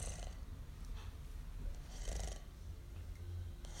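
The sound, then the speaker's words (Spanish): A voice imitates the soft snoring of Changuito Changoni, a story character who is fast asleep, with a few gentle, breathy snores in a slow rhythm, quiet, with no talking around it. “Bueno, un día, una mañana, Changuito Changoni estaba muy dormido. Roncaba suavemente así.”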